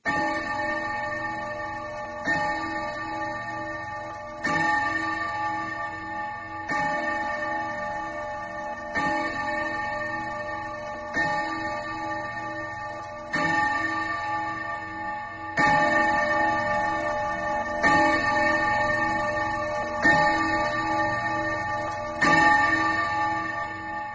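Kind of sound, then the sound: household object, clock striking eleven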